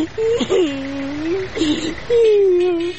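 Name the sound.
person crying and whimpering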